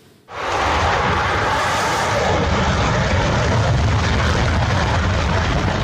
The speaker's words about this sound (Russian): Вот так 2 года назад новейший истребитель Су-57 с оглушителем ревом взлетал на авиасалоне «Макс». По данным Минобороны России, самолет 5-го поколения способен уничтожать все виды воздушных, наземных и надводных целей.